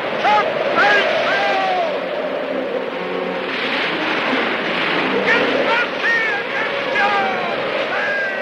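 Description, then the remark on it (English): A loud, continuous roar of storm-tossed water and wind surges over a small launch as it navigates towering waves, with wavering whistling or shouting tones rising and falling above the churning spray while men bail. “Later, in a storm, water washes across the launch as it navigates the towering waves.”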